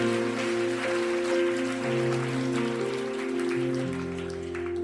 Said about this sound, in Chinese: 我哋有好多好多嘅童工投入喺当中，俾佢哋极大嘅掌声。